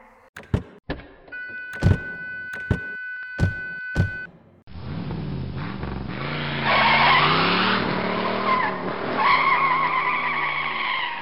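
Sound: car driving off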